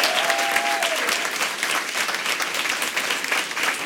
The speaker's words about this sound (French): que je remercie et que je vous invite à applaudir également chaleureusement.